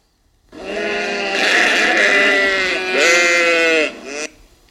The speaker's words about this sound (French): Le mouton.